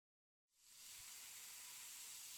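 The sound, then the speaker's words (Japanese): A steady, bright fizzing hiss of carbonated juice rises out of silence after about half a second and holds constant, its bubbles crackling away. “炭酸がシュワーッと広がって弾けていくとともに、君の心の中から何かが消えていく。”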